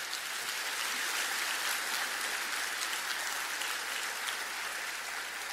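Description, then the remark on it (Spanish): Steady applause from a church audience, a dense wash of many hands clapping at once, sustained and even throughout with no talking over it. “Un aplauso en la casa del Señor, por favor.”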